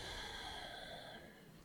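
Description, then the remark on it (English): A soft, airy exhale during a guided breathing meditation, flowing out steadily for over a second, gentle, then tapering off. No voices. “And a gentle exhale.”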